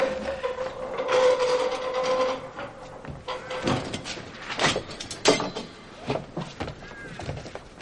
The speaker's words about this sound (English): Nearly there. Now, open the door. Yes, ma'am.